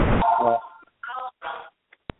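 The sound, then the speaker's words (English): A telephone rings in the background, a brief electronic tone after a harsh burst of noise, followed by two short stretches of muffled voices and a sharp click. “We have a lot of background noise with a telephone ringing.”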